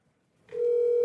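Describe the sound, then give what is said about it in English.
A steady telephone tone switches on after a brief quiet moment, a clean sustained hum with bright overtones holding at constant loudness until the end, like a line opening at the start of a call. “And his cat calls up and makes the funny prank phone calls, and he sends them into the show.”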